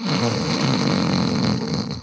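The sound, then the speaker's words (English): A man makes a loud, rasping snore with his voice, performed live rather than as a sound effect, one long continuous drawn-out breath lasting about two seconds, heard on its own. “I've got some podcasting news, and don't snore this time.”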